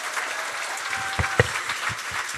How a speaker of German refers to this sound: Da, ja. Applaus erstmal.